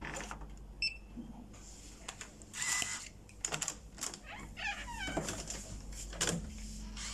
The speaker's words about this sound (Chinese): 啊，对，就是这儿，720。好，我快开门吧，累死了。